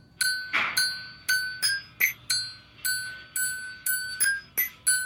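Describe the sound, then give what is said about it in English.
A man uses an Allen wrench to hit drill bits, tapping out a tune in a quick, uneven rhythm: about a dozen bright metallic pings with ringing overtones, each decaying briefly before the next strike. “Yeah, it's an Allen wrench. To hit drill bits.”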